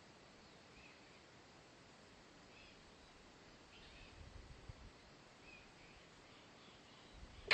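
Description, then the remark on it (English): Faint bird calls repeat at irregular intervals over a steady outdoor hiss, with a soft rustle and low rumble creeping in toward the end. “I've never heard that bird call around here before.”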